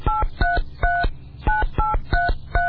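A telephone number being dialed: a quick, steady run of about eight short keypad beeps, each a clear two-note tone, loud and close with no voices.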